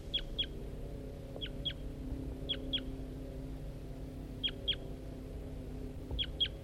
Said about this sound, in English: That's the wild male responding to playbacks of Bird 4-3.